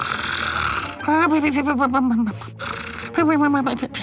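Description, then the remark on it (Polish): A voice imitates a roommate's loud, rattling snoring, likened to a combustion engine giving its last breath: two long rasping bursts with a wavering, sputtering tone like a dying engine, separated by a short pause. “Słyszał pan kiedyś silnik spalinowy wydający ostatnie tchnienie? No to właśnie takie chrapanie, coś jak...”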